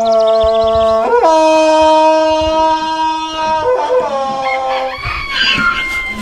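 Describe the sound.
A man imitates Tarzan's jungle yell in a forest in Alentejo, Portugal: a loud, sustained yell, his voice leaping up in pitch, holding a long ringing tone, then breaking into warbling steps, with outdoor ambience underneath.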